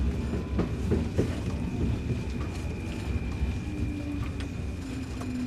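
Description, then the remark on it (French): An elevated Paris Métro line 2 train rumbles steadily along rails toward Barbès–Rochechouart, with low, continuous mechanical noise and scattered clanks, loud, no voices present. “Alors imaginons un peu le ferry qui nous y emmène. Ce serait le métro aérien, ligne 2.”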